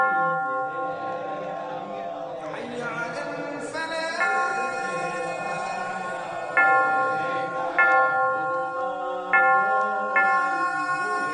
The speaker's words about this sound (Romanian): Și apoi, pentru a completa totul, au început să bată clopotele la biserici.